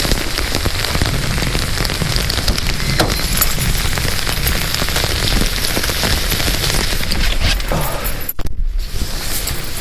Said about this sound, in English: And you can probably hear it very loudly. The rain.